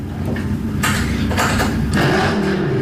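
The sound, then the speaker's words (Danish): A window overlooking a roundabout being closed: a few short scraping, sliding bursts of noise over a steady low rumble of passing traffic, with no one talking. “Skal vi prøve at lukke vinduet en gang?”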